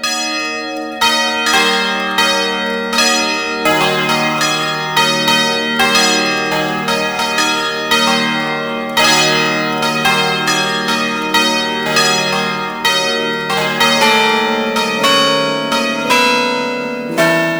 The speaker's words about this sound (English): The swinging bell is provided in various sizes and keys of peals, ideal for weddings and other festive celebrations.